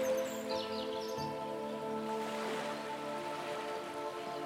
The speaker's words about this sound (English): And there are a few birds flying overhead, and you can hear them as they sing to each other, and it makes you smile with happiness.